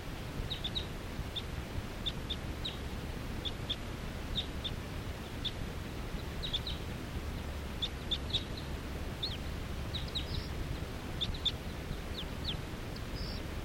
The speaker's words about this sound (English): There are some wild birds here coming around. They're perching in a big tall tree here, and they look like females, all females. Stop. So recording the wild birds.